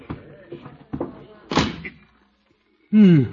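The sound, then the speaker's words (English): A school supply closet door bangs shut with one solid thud partway through, after some muffled vocal sounds; a short silence follows, then a loud voiced exclamation. “Here's the door. Oh, for supply closet. Well, I'll have to squeeze in.”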